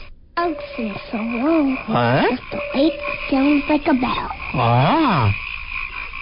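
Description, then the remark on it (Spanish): A frog croaks repeatedly in warbling, rising-and-falling calls, loud, with a steady faint hum underneath and no voices. “Bueno, ¿saben ustedes cómo se dice rana en inglés?”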